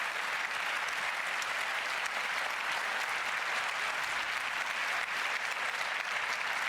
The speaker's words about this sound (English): And again, another huge applause for Anke, please.